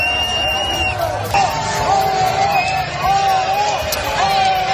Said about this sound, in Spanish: El resumen, lo que sea por salir en el telediario. Incluso aguantar la pitada.